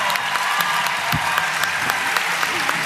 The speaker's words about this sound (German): Dein Applaus, Olli.